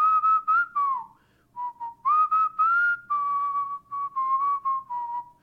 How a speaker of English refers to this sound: Most importantly, however, he has never stopped whistling.